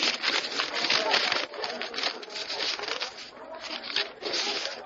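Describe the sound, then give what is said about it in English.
Steady crinkling and rustling of a paper that fell from a citizen's pocket, bearing a poem from the Scarlet Pimpernel, being unfolded and handled at the tribunal, with crisp, uneven bursts of friction running continuously for several seconds. “On this paper, his poem.”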